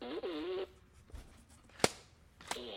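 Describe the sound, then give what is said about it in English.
A water-filled toy fart gun lets out a loud, buzzy, wobbling raspberry, then falls quiet before a sharp snap and the start of another blast. “It's a fart gun.”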